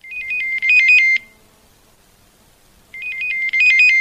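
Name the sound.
telephone ringing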